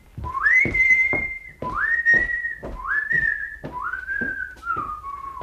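A man whistles a slow, operatic melody in four long, sustained phrases, close and clear, with soft rhythmic knocks underneath and no talking.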